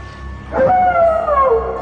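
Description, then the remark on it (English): A wolf man gives a single long howl that rises sharply, then slides slowly downward in pitch, loud over a low background rumble, with no talking. “So then they cut to an enormous full moon over the horizon and the silhouettes of the running children pursued by a howling wolf man.”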